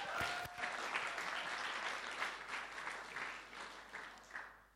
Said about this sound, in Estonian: Tal läheb päris hästi. Teeme aplausi talle.